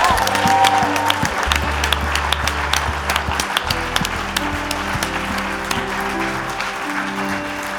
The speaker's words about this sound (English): Est-ce qu'on peut les applaudir encore bien fort?